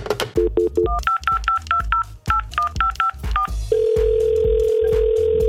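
A quick run of touch-tone keypad beeps, more than a dozen short dual-pitched tones tapped in an uneven rhythm, followed by a steady, unbroken telephone tone that holds to the end.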